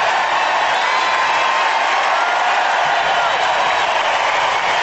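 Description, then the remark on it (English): A large stadium crowd of Giants baseball fans cheers and roars continuously as pitcher Ryan Vogelsong tips his cap at his first home start, a dense, loud wash of voices that holds steady throughout with no individual speech standing out. “So Ryan Vogelsong doffs his cap, and as he does that, the crowd started cheering and roaring even louder. Listen to the fans for the right-hander Vogelsong.”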